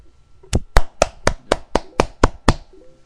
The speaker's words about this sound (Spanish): Ahí están los aplausos para mi hermana, que se siente muy ovacionada.